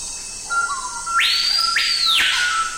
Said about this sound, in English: Now, that's the colorful cry of the surprisingly drab screaming peahawk.